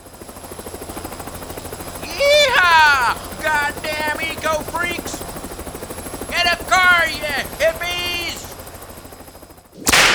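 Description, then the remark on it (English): A helicopter buzzes someone again on the Commander-in-Chief's order, its rotor thudding in a steady, rapid chop throughout, loud and constant, while excited voices shout over it in two bursts before the noise cuts off abruptly. “Buzz him again! Buzz him again!”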